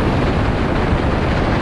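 Loud, continuous storm wind roars and buffets the microphone on Brighton Pier during a massive storm, a heavy low rumble with gusty surges and no pauses. Nobody speaks.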